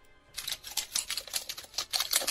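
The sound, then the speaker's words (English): Pine cones rubbed and rattled together make a rapid, dry skittering of tiny clicks and scratches, fairly loud, imitating cockroaches scurrying. The sound runs steadily for about two seconds, with no voices. “It is pine cones, and they are making roaches running.”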